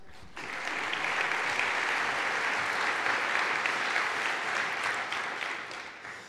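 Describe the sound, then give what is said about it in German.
Steady audience applause, a dense wash of many hands clapping that swells quickly after a brief start, holds strong for several seconds, then begins to taper off. No voices are heard. “Neben der tollen Lösung, herzlichen Dank, Simon, by the way, dein Applaus.”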